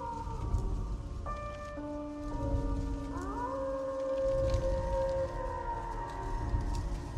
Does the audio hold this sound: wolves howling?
yes